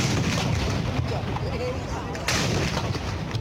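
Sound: cannon artillery fire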